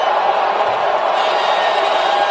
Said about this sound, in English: The crowd is going insane. There's a mixture of chants going on. Four more years, USA. You can hear the drum corps.